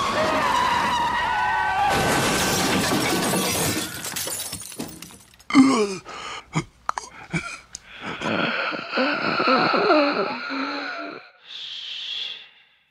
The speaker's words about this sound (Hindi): उसका ये डरावना चेहरा देख के कुमार डर जाता है और उसकी गाड़ी का एक्सीडेंट वहीं पर हो जाता है जहां कभी जूही की कार जलाई गई थी।